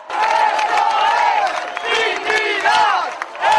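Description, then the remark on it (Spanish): A loud crowd of neighbours, migrants and others, cheers and shouts together in the street after police released a migrant and left the neighbourhood, many voices overlapping in a dense, sustained roar with rising and falling yells and whoops, shouting "dignidad". “Las vecinas y vecinos, migrantes o no, se abrazaban de alegría, algunas personas entre lágrimas, gritando dignidad.”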